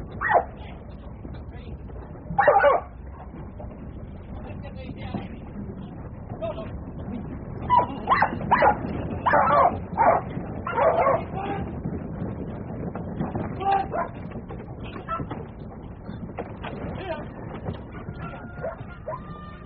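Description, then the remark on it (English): A working dog barks and yips in scattered short bursts, with a cluster of sharp yelps in the middle, heard outdoors over a low, steady background rumble. “Working dog stories from all around Australia.”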